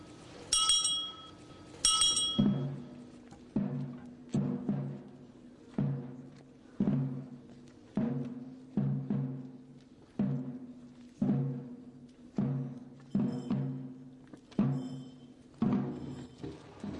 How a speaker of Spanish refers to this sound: Tras el suspiro afilado de la campanilla, las voces se levantan para pedir perdón.